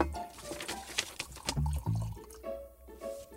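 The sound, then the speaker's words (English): Liquid poured into a glass: a few quick clinks, then low gurgling glugs, followed by a thin, rising tone as the glass fills. Moderately loud, with no talking. “Shall I pour us one?”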